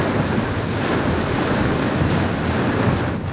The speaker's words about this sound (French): Là, il y a la pluie, le vent. Les éclairs, là on voit plus rien. Hein. On voit vraiment. En plus, t'as des coups de foudre qui tombent devant.